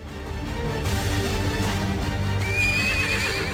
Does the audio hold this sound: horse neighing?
yes